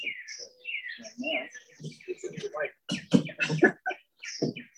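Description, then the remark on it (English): Birds chirp and sing in quick, bright bursts throughout, mixed with a low murmur of voices underneath; the calls overlap, with busier chirping toward the end. “Well, it's nice that the birds came in right on cue.”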